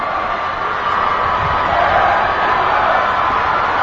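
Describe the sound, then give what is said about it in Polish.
A large crowd of pilgrims, including groups from Latin America, cheers and shouts for the Pope continuously, a dense, steady roar of many voices at a constant loudness, with no single speaker standing out. “Tutaj rozpoznajemy chyba także grupy z Ameryki Łacińskiej, grupy także młodych Amerykanów pochodzenia latynoskiego, które są także bardzo też tak żywiołowe, mają ten ogromnie gorący temperament.”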